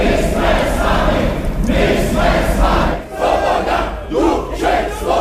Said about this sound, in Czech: My jsme tady natáčeli davovou scénu, kdy přibíhají lidé z města a chtějí vyjádřit podporu Českému rozhlasu, Československému rozhlasu tehdy. Zbíhají se a tady před zavřeným rozhlasem skandují postupně.